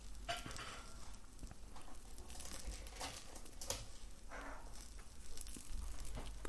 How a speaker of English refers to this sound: And so then we're just going to fry that for as long as we want to, really. Like the sound of a frying egg. But you don't want to cook it for too long because you don't want the yolk to go too hard.